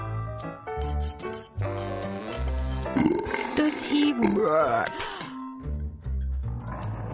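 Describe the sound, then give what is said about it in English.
A voice imitates a loud, drawn-out burp, wobbling and croaking in pitch for a couple of seconds, with steady music playing underneath. “Does he belch or make noises quite rude?”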